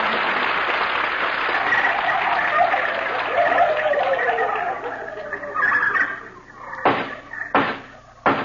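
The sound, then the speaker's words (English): A loud, dense chorus of voices imitating turkey gobbling, with warbling, overlapping calls that thin out after several seconds and end with a few short, sharp bursts. “Oh, gobble, gobble, the turkey of 29 pounds.”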